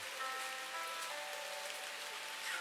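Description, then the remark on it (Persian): Steady rain pours down in a continuous, dense hiss, even throughout, with a faint sustained tonal hum lying softly underneath and no voices. “کاش کی یکی دل منو برده بود میون این قطره‌های بارون تو این هوا دنبالش میگشتم.”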